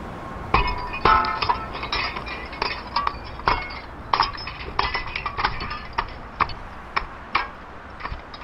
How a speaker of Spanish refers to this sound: tiene que protegerse, voy a romper el vidrio, voy a sostener una escalera desde aquí hacia abajo, porque en las condiciones en las que usted está yo no puedo bajar, y usted tiene que venir a la escalera. ¿Lista? Voy a quebrar vidrio, ¿ya?